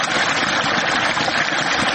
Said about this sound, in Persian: این صدای آب روان را شاید مردم در مناطق جنوب و جنوب غرب افغانستان کمتر بشنوند، زیرا سطح آب پایین آمده و مشکلات ناشی از کمبود آب در بسیاری مناطق افزایش یافته است.